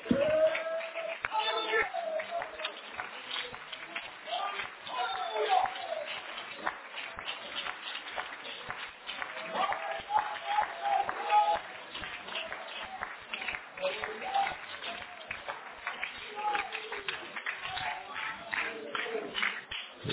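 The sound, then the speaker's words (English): A standing church audience claps their hands steadily and continuously in worship, a dense crackle of many overlapping claps that never lets up, with voices blending in underneath. “Why don't we stand and clap our hands and let's worship the great God of heaven.”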